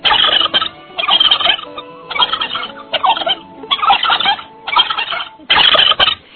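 A turkey gobbles loudly in a series of rapid, rattling bursts, about seven in a row separated by short gaps, with no voices present.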